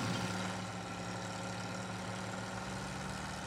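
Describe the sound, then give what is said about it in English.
The small two-stroke 350cc engine of a Czechoslovakian-made Valorax three-wheeler, built of canvas and tubing, idles steadily, a continuous buzzing putter with a low droning hum and no other sounds. “This is a two-stroke 350cc Valorax. It is a Czechoslovakian-made, I'm going to use the word vehicle pretty loosely.”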